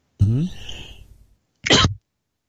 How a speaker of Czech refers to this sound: Tak, kašlík tak. Trochu tě přepadl, asi.